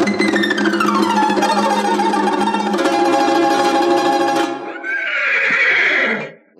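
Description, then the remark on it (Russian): A chestnut (red) horse gives a long, loud whinny, its pitch sliding down from a shrill start, then ends with a rough snorting breath. It is alone, with no talking. “Эй, рыжий конь из ноздрей огонь! Встань передо мной, как лист перед травой.”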